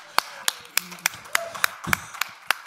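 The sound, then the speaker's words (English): A steady run of about nine sharp hand claps, started by the speaker at the opening of a live stream, evenly spaced at a brisk tempo, loud and crisp over a faint murmur of background voices. “I like starting claps.”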